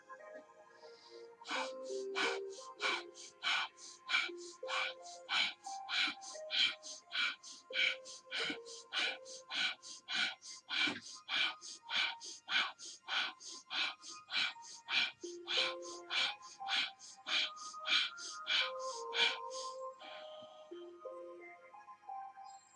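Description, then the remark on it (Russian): Steady, forceful rhythmic breathing in a guided breathing exercise, about thirty quick breaths in an even pulse lasting nearly twenty seconds, fairly loud over soft sustained background music. “И снова дышим.”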